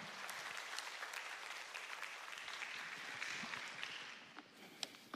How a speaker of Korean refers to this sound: 격려하는 마음으로 큰 박수로 모시겠습니다.